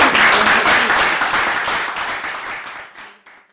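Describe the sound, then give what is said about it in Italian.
An audience applauds as thanks at the end of a meeting, with dense, steady clapping that starts loud and gradually fades out over a few seconds, with no talking. “E intanto vi ringrazio, un applauso.”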